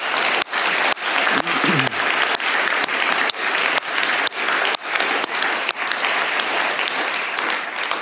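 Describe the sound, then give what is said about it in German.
Steady audience applause for everyone who did the designing, dense and loud, sustained for about eight seconds with many overlapping claps and no speech over it. “Aber machen wir jetzt einfach einen kleinen Applaus für alle, die wieder gestaltet haben.”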